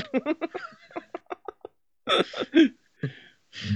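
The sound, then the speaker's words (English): A loud fart sound, most likely a voice imitating it: a quick string of sputtering, bursting pulses, then a few longer, rougher blasts with brief pauses between them. “Here's my fart for you.”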